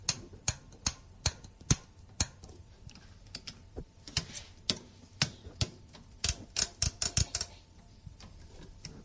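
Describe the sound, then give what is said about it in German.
Crisp mechanical clicks from rotary knobs being turned on machines on the bridge of a cargo ship, irregular, coming singly and in quick bursts against a quiet background hum, with no voices. “Ich sehe hier Maschinen mit sehr vielen Drehknöpfen und eine Karte.”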